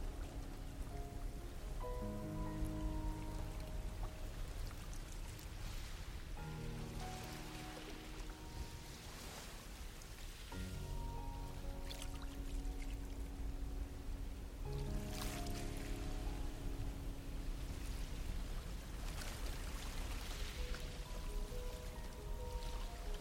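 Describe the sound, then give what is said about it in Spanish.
Steady washing of sea waves, swelling gently every few seconds, blends with soft sustained musical tones that shift slowly underneath; no one speaks. “Siente el agua del mar recorriendo todo tu cuerpo, cada parte de él, llenándote de paz y tranquilidad.”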